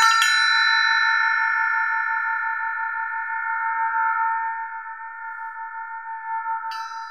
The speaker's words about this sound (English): I can show you. Like, here's a bell. I don't know why this is called an elephant bell, but so here it is.